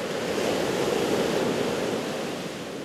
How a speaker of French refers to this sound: Et pourtant, écoutez, les vagues de l'océan, le calme. Bienvenue sur la côte basque.